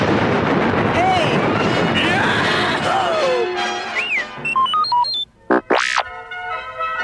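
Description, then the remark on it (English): Sci-fi laser cannon blasts with whooping, sweeping zaps, fired repeatedly at four pursuing Imperial TIE fighters until all are shot down, over a dense, roaring rumble of explosions, building to a chaotic battle din before a few sharp, high electronic chirps and a final rising-falling blast. “Luke, still stunned by Ben's disappearance, managed to fire the cannon repeatedly until he and Han had shot down all their pursuers.”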